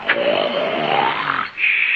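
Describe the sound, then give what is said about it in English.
A loud, rasping snore drags on for about a second and a half, then breaks into a thin, high whistling tone on the exhale. “As soon as you start snoring, you play a tune.”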